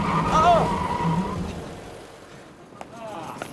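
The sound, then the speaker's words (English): A private car drives along to 100 Sink Street, just off Leicester Square, with a low, steady engine rumble that fades after about a second and a half into a quieter hum, followed by a couple of faint clicks. “Always better to have one's own car on an occasion like this.”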